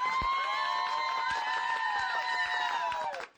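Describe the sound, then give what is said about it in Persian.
At a warm, simple gathering in Shahrekord, Chaharmahal and Bakhtiari province, where people cook ash together on a cold autumn night, the crowd cheers loudly with sustained, high-pitched whoops over scattered claps for about three seconds, then the noise drops off abruptly. “به افتخار خودتون یک تشویق بکنید لطفا.”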